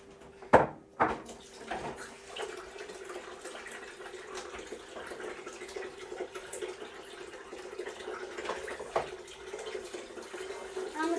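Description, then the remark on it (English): A tap runs steadily into a glass for drinking water, a continuous rushing of water that follows two sharp clunks at the start, like a cupboard or glass being knocked. “Do you want a glass of water, darling?”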